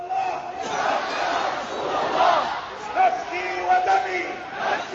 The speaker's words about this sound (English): Hassan Nasrallah interacting with the huge crowd cramming the streets where the protest was staged